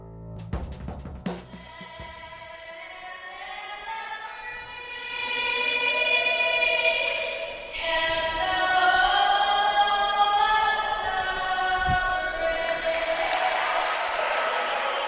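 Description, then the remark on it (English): A loud, sustained crowd of more than 5,500 fills Barney Scott Gym at Seymour High School during a basketball game between Center Grove and the South Panthers, with wavering horn-like tones rising over the roar and brief sharp knocks near the start. No one speaks clearly. “Well, a great crowd here on hand at Barney Scott Gym on the grounds of Seymour High School.”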